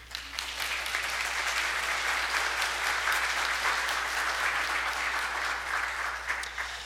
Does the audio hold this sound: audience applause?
yes